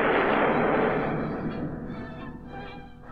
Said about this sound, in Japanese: あ、ゴジラに向けて眼光線を放った。ゴジラ負けじと放射能光線。両者の光線がぶつかり合い、スパークを起こす。